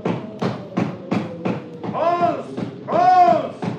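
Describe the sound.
Five steady, evenly spaced knocks thud on a door, followed by a voice calling out loudly twice in drawn-out, tonal shouts.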